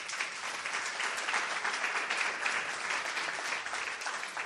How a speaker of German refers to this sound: Können wir unserem Mediateam einen Applaus geben?